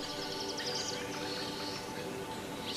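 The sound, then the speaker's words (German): Various species of colorful birds chirp and trill in quick, overlapping bursts in a forest, over a steady outdoor background hum, with no voices, giving the busy feel of a lively woodland chorus. “Es sind bunte Vögel in allen Farben und Formen, die fröhlich zwitschernd umherflattern oder es sich in den Ästen der Bäume gemütlich machen.”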